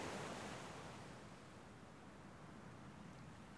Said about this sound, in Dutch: Wandel je even met me mee langs de branding? Ik vind dit geluid altijd zo kalmerend.